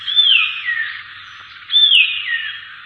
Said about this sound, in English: Brain fever, brain fever, said the cuckoo, repeating it after a pause.